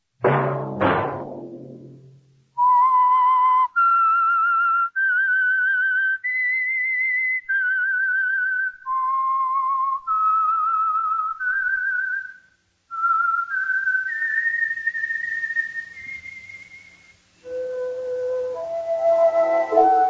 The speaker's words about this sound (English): Whistle be your signal for the Signal Oil program, The Whistler, each Wednesday night at this same time.